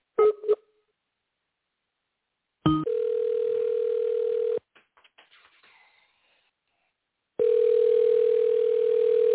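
An outgoing phone call, placed to someone who asked to call in, ringing: two long, steady electronic tones separated by a pause, with a couple of short beeps at the start and faint clicks in the gap. No one speaks.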